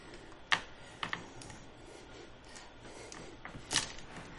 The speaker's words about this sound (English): But I also have 10 dice for picking the lock. Yeah, why don't you do it? Alright, dice, don't screw me on this. Roll all the dice.